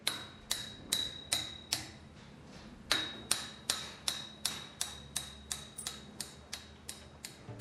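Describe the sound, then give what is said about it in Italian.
Steady hammer blows ring out on a reconstruction site in L'Aquila, Italy, about two strikes per second with a sharp metallic clang, fairly loud, with a faint background rumble and no voices. “L'Aquila ormai è il cantiere più grande d'Italia e per noi è l'unica fonte di sopravvivenza e di lavoro.”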